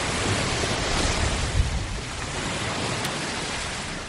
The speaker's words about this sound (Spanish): El sonido de las olas ayuda a relajarse mientras escuchas la radio, lees un libro.